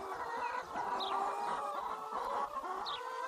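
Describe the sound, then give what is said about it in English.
A flock of chickens, kept inside stainless steel wire fencing, clucks and murmurs continuously, with overlapping warbling calls and a couple of brief higher squawks, steady and moderately loud throughout. “These little stainless steel threads, this will keep out black bears, coyotes, raccoons, foxes, dogs, cats, and keep the birds in.”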